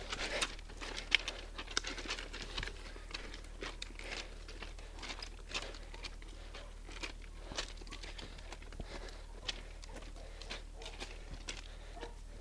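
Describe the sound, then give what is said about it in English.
Footsteps crunch steadily over loose train track gravel while walking along the side of a train track, each step a sharp, gritty scrape in an uneven walking rhythm, quiet, with no one speaking. “It's really hard to walk on this gravel, train track gravel.”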